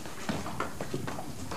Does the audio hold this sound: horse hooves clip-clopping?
yes